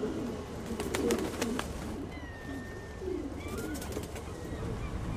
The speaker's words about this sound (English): Meet Nelson, your typical young street pigeon. He's been working the city for 2 months now, but he's yet to master many skills you need to survive in this metropolis.